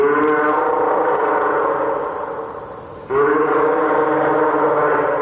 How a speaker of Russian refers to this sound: А это это подает голос морской котик.